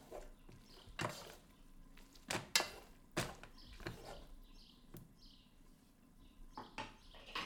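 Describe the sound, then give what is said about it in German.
Spaghetti being stirred in a pot with a wooden spoon to mix in a little olive oil: quiet, irregular knocks and clacks against the pot, with soft, faint chirping sounds in the background and no voices. “Ich gieße ein bisschen Olivenöl in den Spaghetti-Topf und rühre mit dem Holzlöffel das Öl unter die Spaghetti.”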